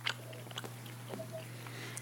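Chewing on a tough, hard piece of licorice candy, with sticky clicks and crunchy mouth sounds repeating irregularly over a steady low electrical hum; nobody talks.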